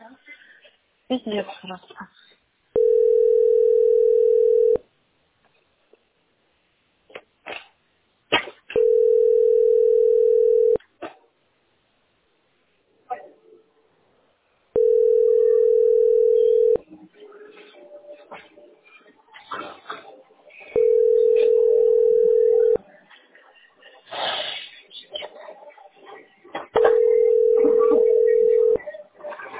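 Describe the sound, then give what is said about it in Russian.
A telephone line tone repeats five times at a steady pace, each long beep lasting about two seconds, while a caller waits on hold at position 100 in the phone queue of a billing centre. People talk and something clatters in the gaps between tones. “Моя позиция 100 по телефону. Ты представляешь, сколько мне ждать ответа?”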